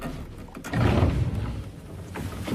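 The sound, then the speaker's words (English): A narrow door is pried open by a man's fingers along a thin crack, giving a low, grinding scrape that swells after a brief pause and drags on steadily, with no voices. “The man runs his hand up the crack and pries at it with his fingers, forcing a narrow door open.”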